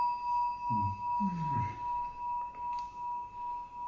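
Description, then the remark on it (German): A bronze bell bought in Kyoto, struck with a clapper, rings with a steady, bright tone that hangs and pulses slowly as it sustains, while a voice speaks briefly over the start of the resonance. “Also die ja auch einen wunderschönen Klang hat.”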